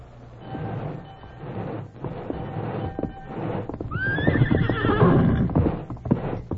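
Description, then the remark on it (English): A horse named Silver lets out a loud whinny midway through, over a steady clatter of hooves clip-clopping and a low rumbling background. “Steady, boy.”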